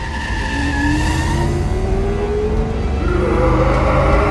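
A loud truck engine revs steadily higher as the vehicle pulls away, its droning pitch sliding upward for several seconds with a faint tire squeal mixed in.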